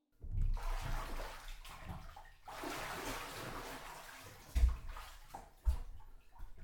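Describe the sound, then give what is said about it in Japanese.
Water sloshes and splashes as someone climbs out of a bathtub, a broad watery churn with a few heavier splashes and low thumps near the end, with no talking. “それじゃあこっち上がってきて。”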